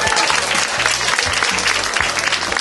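A crowd applauds steadily for a person leaving the stage at a school quiz contest, a dense, loud wash of clapping that holds at an even level without pause, with no voices standing out.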